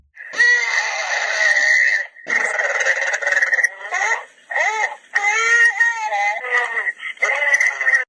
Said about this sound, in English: So that's your animals there. You got your cows. Maybe there's, I think I heard a chicken.